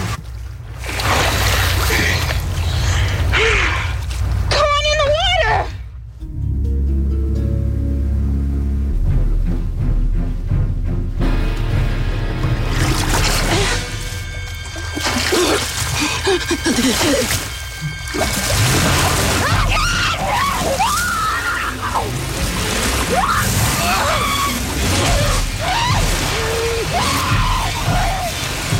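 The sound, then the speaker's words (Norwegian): Frantic screaming rises over loud splashing and churning sea water in the opening scene of a shark film, voices crying out again and again in a dense, chaotic wash that barely lets up, briefly thinning before building back into panicked shrieks. “Ja, det nok så intenst og mye skrik I starten av denne filmen.”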